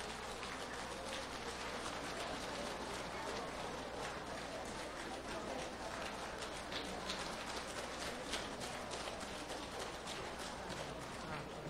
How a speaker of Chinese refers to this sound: 现在让我们用最热烈的掌声恭请我们尊敬的卢军宏台长为我们慈悲看图腾。